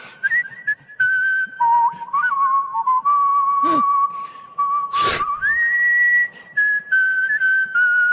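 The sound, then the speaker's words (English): A professional whistler whistles the national anthem for the whole stretch, the pure tone sliding between sustained notes with a slightly wavering pitch, fairly loud, broken by a couple of brief sharp noises partway through. “I mean, I think it's an extremely hard song to do whistling.”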